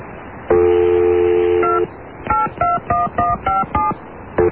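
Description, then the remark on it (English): A steady dial tone sounds first, then a rapid run of about seven short telephone keypad beeps as a phone number is dialed, each a distinct two-pitched tone, clear with no talking. “Let me just make sure I have this prankster's phone number.”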